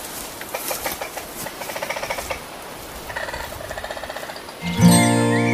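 Trees creak overhead in a dense forest thicket, giving off rapid, rhythmic squeaky pulses in two bursts, followed at the end by a louder, sustained tonal groan.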